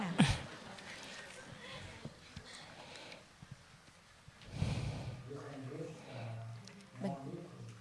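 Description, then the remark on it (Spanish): Deep, forceful breaths: a sharp, noisy intake at the start, then a longer heavy breath midway, followed by low murmured vocal sounds. “Respira más fuertemente.”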